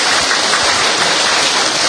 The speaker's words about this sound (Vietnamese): Vỗ tay thật to lên thưa anh chị em.